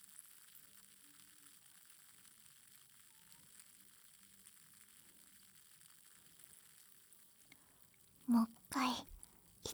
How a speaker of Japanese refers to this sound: サイダーとはちょっと違う。 パチパチじゃなくてシュワシュワって音。まさにシュワシュワタイム。 味変ならぬ音変ですね。